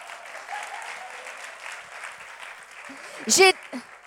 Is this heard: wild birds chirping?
no